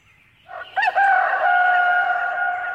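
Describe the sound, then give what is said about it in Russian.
A rooster crows once, loud, starting with short rising notes and settling into a long sustained, slightly wavering call that holds to the end. “Закричал петух.”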